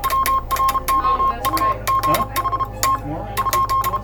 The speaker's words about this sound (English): What hath God wrought? On that day, July 12th, 1999, the Morse operators who tapped out these signals for years, even decades, gathered to say goodbye.